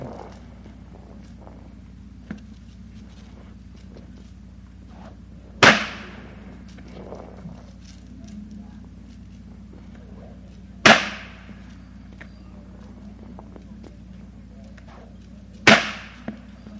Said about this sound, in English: I've helped him out some on this, and Tommy's going to show you some fancy whip popping for just a young cowboy. Okay, Tommy, it's all yours.